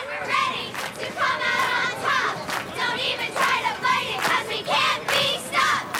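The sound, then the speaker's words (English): The Wildcat cheerleaders at a bus station chant and shout in unison to greet the opposing team, bursts of high, energetic yelling rising and falling in a steady rhythm, with crowd noise beneath. “The Wildcat cheerleaders are at the bus station to greet the opposing team.”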